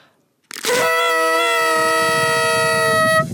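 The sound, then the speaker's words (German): A loud, brassy toy horn (Tröte) blares in one sustained, steady blast lasting nearly three seconds, harsh, with no talking over it. “Und darf ich noch einmal in die Tröte blasen?”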